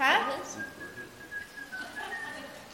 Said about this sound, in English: Now, what if birds sang that song? What do you think they would do? Kick it? Well, yeah, they could. We could whistle.